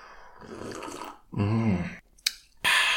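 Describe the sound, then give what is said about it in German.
Sipping water with squeezed lime from a glass: a soft slurp and throaty swallow, a sharp little clink, then a breathy rush of air, all quiet with no talking. “So, aber erstmal ein Schluck Wasser mit einer Limette ausgedrückt, die auch noch da drin rumschwimmt.”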